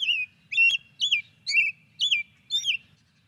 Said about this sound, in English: Well, let's hear the sound of one of the birds you write about. It also happens to be Wisconsin's state bird. Here is a robin song.